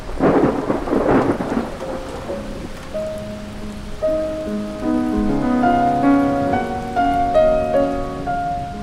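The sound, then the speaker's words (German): A thunderstorm opens with a loud rumble of thunder and steady rain, then a gentle melodic tune fades in and plays over the continuing rain. “So töft hei ob den Sturm.”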